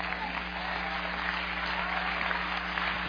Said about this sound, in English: If you understand what I say, just clap your hand. Praise God.